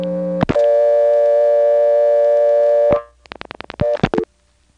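A steady dial tone from a payphone in Siler City hums for a few seconds, cuts off into a quick run of dialing clicks as a 6 is dialed, then a short burst of fresh dial tone briefly returns. No one speaks.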